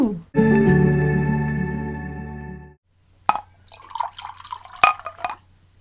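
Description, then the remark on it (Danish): A sustained ringing tone gives way to water being poured into a glass, with uneven splashing and trickling bursts over a few seconds. “Vi skal bruge et glas vand.”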